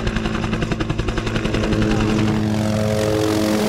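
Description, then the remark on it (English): A helicopter flies, its rotor blades thumping in a rapid rhythmic beat before blending into a steady, loud engine drone; a smaller helicopter carrying a vet looking for a rhino to dart with a tranquilizer. “Vet Dave Cooper was already up in another smaller helicopter looking for the next rhino.”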